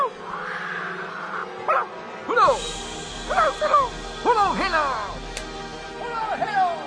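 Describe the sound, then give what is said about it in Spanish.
A team of 25 Siberian husky sled dogs pulling a sled on the steppe barks and yips excitedly, with repeated overlapping high-pitched yelps in quick bursts over a steady background hiss, lively. “Vemos cómo llega en un trineo jalado por 1, 2, 3, 15, 25 siberianos el encargado de consultar al profeta sobre la suerte del zar.”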